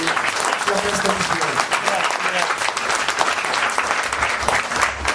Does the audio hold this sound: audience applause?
yes